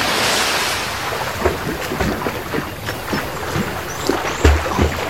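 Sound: ocean waves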